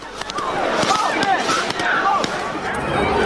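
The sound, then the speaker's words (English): Pepper balls fired toward a crowd of protesters smack the ground in a string of sharp, irregular cracks, about eight or nine in three seconds, over a steady backdrop of crowd voices and shouting. “A protester films pepper balls fired toward the crowd. They can be heard striking the ground.”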